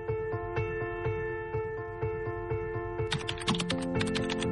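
Rapid clicking of keys on a computer keyboard in an office as search terms are typed into a search engine, steady at first and then a quicker, denser burst toward the end, over a soft sustained musical drone.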